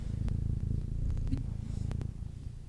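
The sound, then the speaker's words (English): A female cat purrs into the microphone in a steady, low rumbling rhythm, with a few faint clicks and rustles on top; no one speaks. “Do you want to purr into the microphone? Let's see if we can hear her.”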